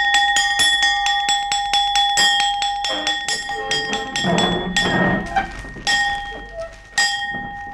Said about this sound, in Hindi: हमारा हुक्म है आधी छुट्टी की घंटी बजा दी जाए।